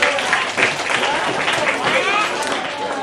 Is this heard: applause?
yes